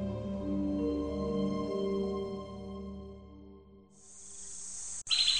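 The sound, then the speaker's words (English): A steady, low droning tone fills the first few seconds, then gives way to a dense, high-pitched chorus of night insects, briefly cut off before resuming loudly, as a strange bird call warbles in the distance. “A strange sort of bird call warbled off in the distance, and instantly the background crackle of insects and scuttling animals ceased.”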